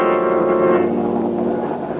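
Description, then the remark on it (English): A steady, loud engine drone hums on without a break, a dense mix of low rumble and layered tones with a faint shift partway through, from an airplane in flight high over railway tracks, searching for a missing train. “As we return to our story, Boston Blackie and his friend Mary are in an airplane high over the track from which the train disappeared.”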